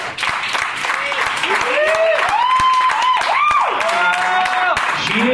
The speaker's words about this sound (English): So please, if you can, if you know her at all, tell her good job. Tell her thank you. Clap for her.